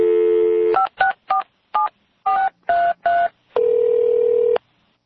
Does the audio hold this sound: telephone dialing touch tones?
yes